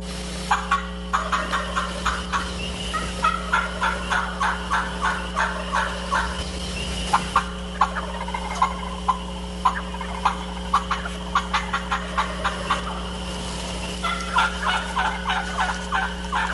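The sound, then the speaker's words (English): Wild turkeys gobbling on a river bluff in April, recorded for turkey scouting, in repeated bursts of rapid, rattling calls, several overlapping, with a steady low hum running underneath the whole time. “And we got because it's April and it's turkey season, Matt's going to play a little turkey sounds from you on a river bluff for scouting, let you hear some gobbling before we go on with the show.”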